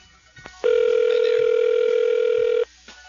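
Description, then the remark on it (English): A steady, loud telephone dial tone holds a single pitch for about two seconds before a call connects, starting and stopping abruptly, with faint clicks and quiet background noise on either side. “So without further ado, let's get on with the phone survey.”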